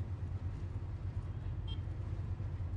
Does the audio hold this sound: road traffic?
yes